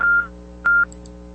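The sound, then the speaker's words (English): Two short, loud telephone keypad tones sound about half a second apart while dialing a call back to the Brownsburg Police Department, each a steady electronic beep, over a faint low hum with no one speaking. “Let's see if I can call right back here.”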